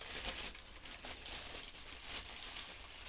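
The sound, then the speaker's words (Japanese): Continuous crinkling and rustling of a plastic bag holding vegetables such as bitter melon and zucchini, with crackly bursts that keep going steadily for a few seconds and no voices. “ちょっとガサガサうるさいから一度袋から出すね。”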